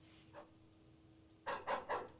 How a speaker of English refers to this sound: Dog.